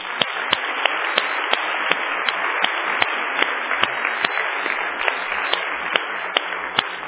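A church audience applauds steadily, a dense wash of many hands clapping continuously with a few sharper claps standing out, without any talking.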